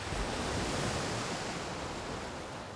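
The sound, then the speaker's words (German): Ocean surf rushes onto a beach at low tide in a steady, broad roar of washing water that stays fairly loud and easing slightly toward the end, with no voices. “hörst du auch das Rauschen der Wellen?”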